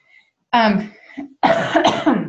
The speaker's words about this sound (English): excuse me, I got an allergy cough.